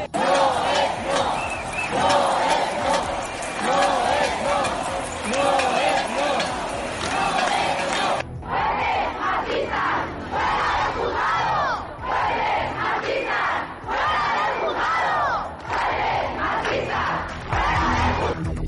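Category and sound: crowd, protest crowd chanting slogans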